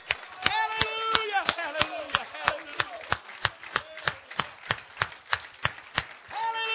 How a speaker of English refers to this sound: The book said, clap your hands and shout with a voice of triumph. Come on now. Why don't we try it right here one time? Come on. Hallelujah. Oh, come on. Don't patty cake. Clap your hands.